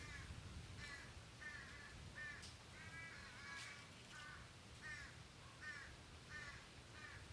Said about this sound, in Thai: นกกาก็ร้องขึ้นมา